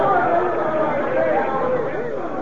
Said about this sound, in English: It worked. The crowd rushed out.